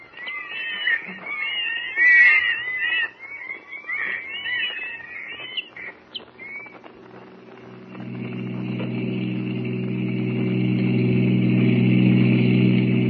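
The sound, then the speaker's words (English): High, wavering squeals give way to a car engine's steady low rumble that grows louder and holds as the car drives and pulls up to park; no one speaks. “Now, I'll park here.”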